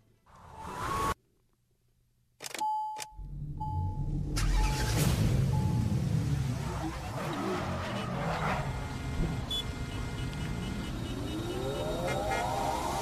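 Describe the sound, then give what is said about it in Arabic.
A car with a faulty engine trying to start: a few clicks and short beeping tones, then a loud, rough, sustained engine roar with a rising whine toward the end. No voices. “الحمد لله السيارة مختربة اليوم مستمعينا مثل البارحة.”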